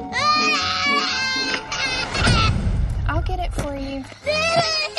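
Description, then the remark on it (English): A toddler from the TLC reality series Toddlers and Tiaras whines and cries in a tantrum, with loud, high-pitched drawn-out wails, broken by short sobbing gasps and a brief muffled rumble partway through. “That particular whine comes from”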